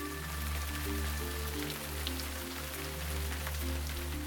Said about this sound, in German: Du gehst nun weiter und kommst an einem Wasserfall an.